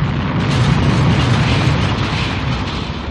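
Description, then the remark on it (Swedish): Lightning strikes a church on Gotland, setting its roof on fire. A loud, sustained thunder crash rolls on without a break, a deep roaring rumble with a harsh crackling hiss layered on top, holding steady for about three seconds with no voices. “Och då blixten träffade mig. Taket sattes i brand och rasade in.”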